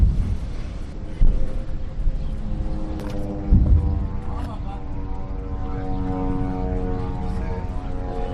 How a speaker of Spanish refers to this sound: el micrófono de la cadena COPE ha sido testigo de esos bombardeos y también testigos de cómo aviones de este país sobrevolaban la franja